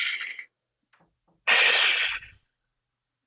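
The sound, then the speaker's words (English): A slow, deep, conscious breath drawn in, with a loud airy inhale through the middle and a softer breathy exhale at the start and a faint one at the end, no talking. “People don't realize how important not just the normal everyday breathing that we do, but a conscious taking of the deep breath. Even just hearing you do that, I instantly take a giant breath.”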